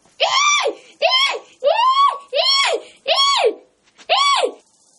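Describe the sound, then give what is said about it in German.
A woman, woken by a black beetle on her nose, screams at full force in six loud, high-pitched bursts, each rising and falling in pitch, separated by short gaps, unaccompanied by other sounds. “Sie öffnet die Augen und sieht einen schwarzen Käfer und schreit aus Leibeskräften.”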